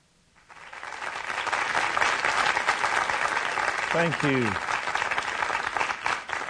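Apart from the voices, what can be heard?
audience applause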